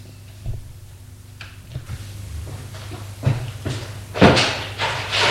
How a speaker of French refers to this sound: La porte s'est ouverte. C'est la secrétaire.